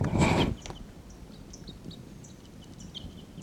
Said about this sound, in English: Wild birds are calling there. Wild birds are calling a bit loudly now.